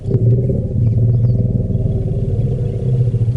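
A recorded elephant rumble that researchers say contains a name: a deep, continuous, low throaty drone with layered harmonics that swells slightly and holds steady for a few seconds, loud and without any voices.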